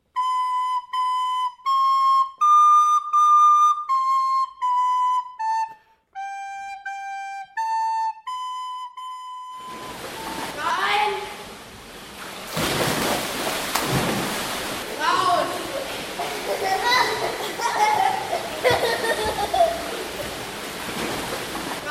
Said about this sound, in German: Was ihr gerade gehört habt, war eine Übung im Training. Wir müssen da immer ins Wasser springen und wieder rausklettern. Das kommt meistens am Schluss, so 5 bis 10 Minuten.